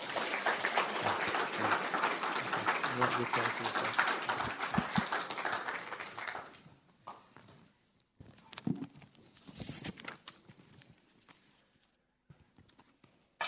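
A church audience applauds to encourage a pastor before his last sermon there: dense, sustained applause that holds steady for about six seconds, then thins into scattered, uneven claps and fades out, with a few faint stray sounds trailing at the end.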